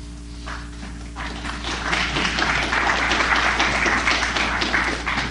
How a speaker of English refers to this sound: It's very nice of you to applaud, but don't wear out your hands.